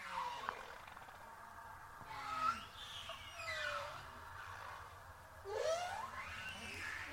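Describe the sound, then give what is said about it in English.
Eerie calls of Henry the Hudson Whale: a series of long, sweeping moans that glide up and down in pitch, with a few higher squeals, heard alone against a faint low rumble. “Are joined by our friend Henry the Hudson Whale for some Hudson River stories from the past week.”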